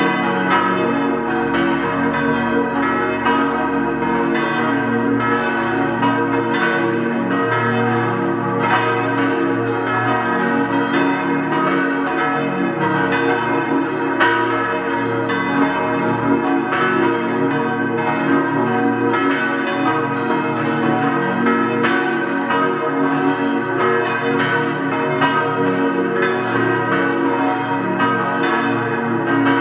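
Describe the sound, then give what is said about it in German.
The bells of the deanery parish church of St. Vitus in Zell am Ziller, Tyrol, peal together at 12 noon in a full, continuous clangor, their overlapping strikes ringing steadily and loudly without pause, with rich lingering tones and no voices. “Sie hören die Glocken der Dekanatspfarrkirche zum heiligen Vitus in Zell am Ziller in Tirol.”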